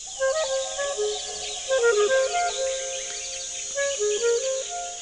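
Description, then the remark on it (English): A clarinet plays a rose-breasted grosbeak's song, from F. Schuyler Matthews' bird song transcriptions set to clarinet by composer Doug Quinn, as three lilting, warbled phrases of stepping notes, over a steady high insect-like hiss. “That was the rose-breasted grosbeak.”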